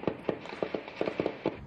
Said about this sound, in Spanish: De noche se escuchan disparos.